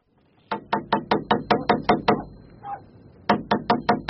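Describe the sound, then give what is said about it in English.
Rapid, evenly spaced knocks on a door, about eight in a quick run, then a pause with a faint murmur before another burst of five or six sharp raps. “Try the door again”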